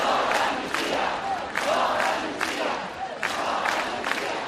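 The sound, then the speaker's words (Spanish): Hundreds of thousands of protesters in Catalonia, Spain, shout "not in my name" together in the street against an amnesty, a dense, loud roar of voices with rhythmic surges roughly every second, like chanted slogans, continuing throughout without individual speech standing out. “Cientos de miles de españoles de Cataluña han vuelto hoy a salir a la calle para gritar no en mi nombre.”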